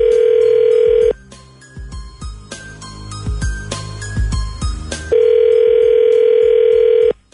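A loud, steady telephone dial tone sounds for about a second, breaks into a short busy stretch of tinkling, chiming tones, then the same flat tone returns for another two seconds as a phone call is placed. No one speaks.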